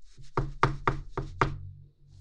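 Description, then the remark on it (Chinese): Five firm knocks on a door in a quick, steady rhythm, each a solid resonant thud, clear with no voices around them. “弟弟，是有人敲门吗？”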